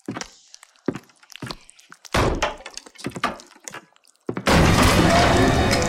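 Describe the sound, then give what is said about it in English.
Heavy thuds strike a door several times in an uneven rhythm as it is kicked, building to a loud crash as it bursts open, followed by a sustained roar of noise. “Kick the door open, Gus.”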